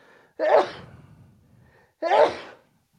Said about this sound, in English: I'm good. I think those cookies made you sneeze. I might leave that in, just so you know. Yeah. Okay. That is sneeze.